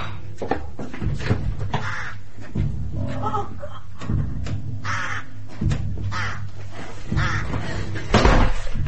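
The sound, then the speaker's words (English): A dense chorus of crows cawing outside, covering the trees, many harsh overlapping calls coming in ragged bursts throughout, loud, with a low steady rumble underneath. “She said she'd shot all the birds, but she can't have. They're there, outside, covering the trees.”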